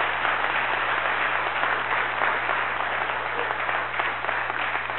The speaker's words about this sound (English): Brother, this crowd around here cheers like their team won the Super Bowl when somebody gets saved. When somebody comes up out of the baptistry.